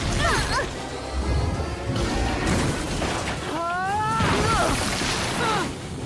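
Glass shatters and crackles in a loud, continuous burst of crashing debris lasting several seconds, with rising and falling vocal-like cries mixed into the chaos.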